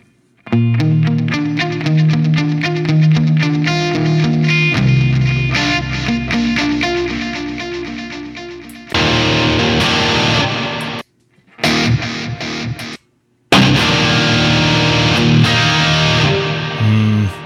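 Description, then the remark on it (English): An electric guitar plays through an amp on its dynamic preset with a crunchy, saturated tone, notes and chords washing out in a heavy reverb tail, broken by a couple of short silent gaps, with no talking. “Too much reverb.”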